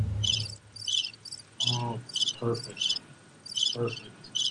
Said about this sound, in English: That's crickets because we all know you're right. Let's see. Where are the crickets?